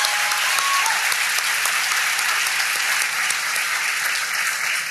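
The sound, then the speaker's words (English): A crowd applauds a man for running for office in the district, a steady, dense wash of many hands clapping at a sustained, fairly loud level throughout, with no voices standing out above it. “So you should give him a round of applause for running in this side of the district.”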